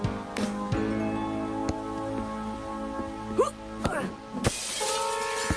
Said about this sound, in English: Is that the overhead light you just smashed, smithereens?